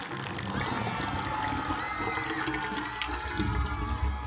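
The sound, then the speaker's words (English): Water rushes and gurgles steadily as Lucky Duck Lake is drained of all its water by Mighty Mila and Hal the Hamster, a continuous, fairly loud churning flow with no voices. “Mighty Mila and Hal the Hamster have drained the Lucky Duck Lake of all its water.”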